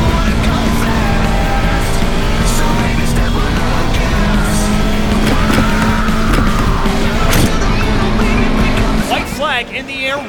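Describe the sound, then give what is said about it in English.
Race cars roar past at high speed down Holman Way, engines droning loud and continuous, with brief tire squeals rising and falling and a faint voice beneath the noise. “That was some of the most impressive car control I've seen here this weekend.”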